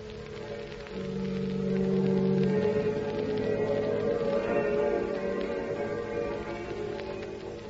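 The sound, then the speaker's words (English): Soft monastery bells ring over sustained, low organ chords, steady and unhurried for several seconds, with a faint hiss throughout and no voices. “It's peaceful here. The bells ringing soft like and the organ playing.”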